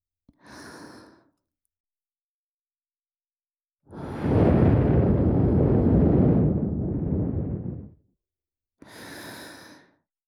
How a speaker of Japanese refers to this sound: 右からも吐息流し込んであげる。